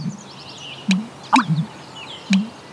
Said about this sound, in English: And rarer sounds like the call of the American bittern, a wetlands bird in steep decline.